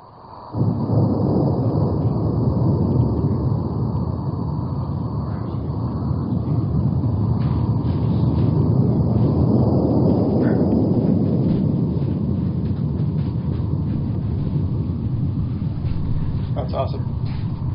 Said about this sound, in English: So here's the earthquakes make some of the loudest natural sounds in the sea. When a small earthquake happens off the coast of Washington or British Columbia, this is what it sounds like.